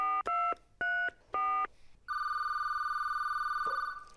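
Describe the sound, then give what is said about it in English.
Three short, evenly spaced keypad beeps as a phone number is dialed, followed by a long steady electronic tone on the line. Clear, with no one speaking. “she knows that the very first thing she would have wanted to do when she got home was phone her best friend,”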